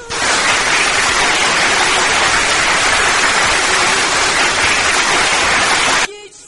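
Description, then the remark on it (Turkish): A dense wash of crowd applause for a poet on a poetry show, loud and steady for about six seconds, then cutting off abruptly into near silence. “Alkışlar sana da geliyor.”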